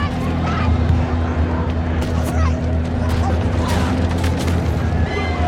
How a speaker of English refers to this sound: You see the literal chaos. Black people, families, kids running for their lives, being attacked in the street. Fires everywhere, explosions, gunshots.